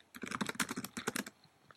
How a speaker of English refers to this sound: Sorry for the typing noises.